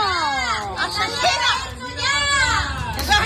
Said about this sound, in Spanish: Pues estos son los gritos de Hornachos indignado contra los asesinos. Este sábado llegaban a los juzgados los dos hermanos y fueron recibidos así por parte de estos vecinos Hornachos congregados frente al edificio.